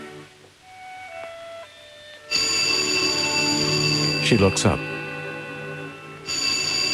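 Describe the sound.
A telephone bell rings loudly and shrilly in a long burst, then starts again after a brief pause, following a short line of quiet speech.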